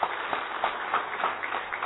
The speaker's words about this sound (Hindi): एक बार इनके लिए जोरदार तालियां।